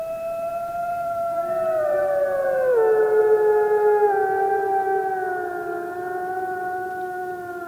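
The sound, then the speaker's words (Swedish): Several wolves howl together in the old-growth forest of Tiveden, in long, overlapping tones that slowly dip in pitch, forming a steady, mournful chorus that fills the whole stretch at moderate loudness with no voices. “Och kanske ylar till och med vargen här igen.”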